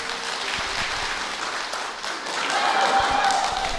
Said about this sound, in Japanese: はい、皆さん、温かい拍手ありがとうございます。